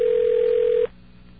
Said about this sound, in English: Phone is ringing. It's kind of funny, actually. All these phones are ringing here, and I'm not picking them up, and I'm ringing another radio station, and they're not picking up.